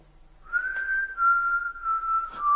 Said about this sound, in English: You can still hear, can't you? I'll whistle, and you come to me.